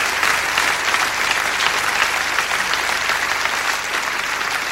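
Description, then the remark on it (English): Steady applause from a large audience, dense and sustained clapping filling the space at an even, fairly loud level for several seconds with no voices standing out. “I don't do many clap-alongs, as you know, because that's another thing I realized when I hit 40.”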